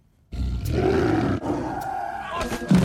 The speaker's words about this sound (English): there is a tiger in the bathroom!